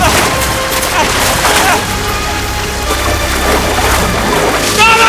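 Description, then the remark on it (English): A loud splash of a man falling into a river, followed by continuous churning, rushing water noise that stays dense throughout, with a few sharp cracks and thuds mixed in. “falls in the river and the rope leaves his hand.”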